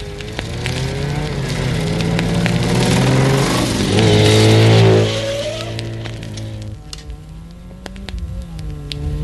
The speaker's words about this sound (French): Ah, c'est la dernière moto qui arrive.